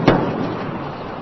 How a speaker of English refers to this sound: Twin sonic booms heralding Atlantis's arrival at the Florida spaceport. The shuttle Atlantis has landed at the Kennedy Space Center, and Commander Steve Frick brought her home this morning.